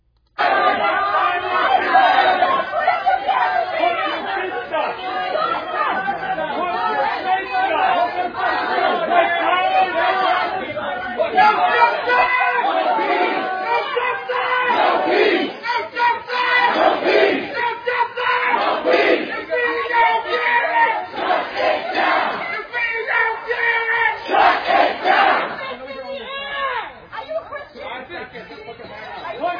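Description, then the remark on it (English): A crowd of about 200 rioters from the summer 2020 riots shouts and chants without pause at a small group of people at an outdoor cafe, many voices overlapping into a loud, dense roar with rhythmic bursts of yelling and no single speaker standing out. “And just in case your short-term memory does not extend back to the summer of 2020, let me remind you what those riots sounded like.”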